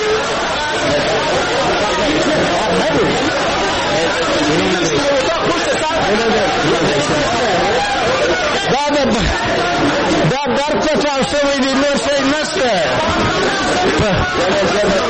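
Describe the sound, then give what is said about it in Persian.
A dense crowd hubbub of many overlapping voices and chatter, loud and continuous throughout, with scuffling movement as members of parliament rush noisily out of the National Assembly in Kabul after a suicide bomb explosion shattered its windows. “شیشه های مقابل من در دفتر رسانه های شورای ملی از هم پاشید و نمایندگان مردم که آن طرف همین شیشه قرار دارند با سر و صدا از مجلس بیرون می شتابند.”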